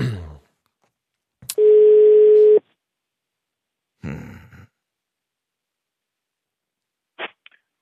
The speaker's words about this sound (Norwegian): Det Mathias driver med nå, er altså å slå nummeret til en av disse